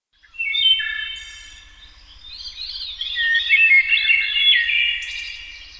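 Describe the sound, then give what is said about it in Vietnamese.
A flock of birds chirping in the trees, many high, bright calls overlapping in a continuous busy chorus, steady throughout with a faint low hum beneath. “Tiếng hót của bầy chim trên cây làm tôi cảm thấy vui vẻ lạ thường.”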